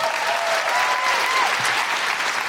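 A crowd bursts into loud, sustained applause, a steady dense wash of clapping that holds at an even level throughout, with no voices standing out.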